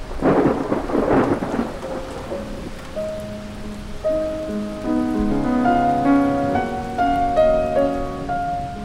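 A thunderstorm: heavy thunder rumbles loudly at the start, then rain keeps hissing steadily as a tuneful melody rises over it. No voices.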